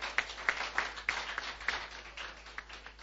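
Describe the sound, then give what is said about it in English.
An audience claps in a crowd-wide patter, with several sharper individual claps standing out early before the applause thins and softens over about three seconds. “If you're clapping, clap away if you catch what I'm saying.”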